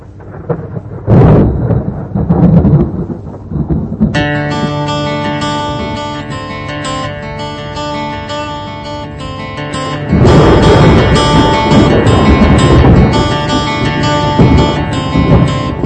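A country song opens with rolling thunder rumbling alone for a few seconds, then sustained guitar and keyboard tones enter over lingering storm noise, swelling into a louder, fuller band.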